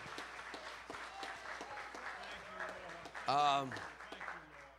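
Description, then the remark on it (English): A church audience claps steadily throughout in praise of the Lord, with a loud rising shout of triumph from many voices bursting out near the end amid the applause. “Give the Lord a great hand clap of praise and a shout of triumph, a shout of triumph.”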